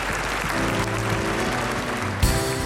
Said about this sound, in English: And everyone says, would you thank him again with a clap offering?